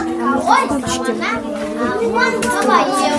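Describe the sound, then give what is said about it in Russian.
A crowd of children, some with visual impairments or other problems, all in bright carnival costumes, arriving at a library event and chattering and calling out over one another, lively high-pitched voices filling the space continuously. “Ну вот появляются дети. Детишки разные.”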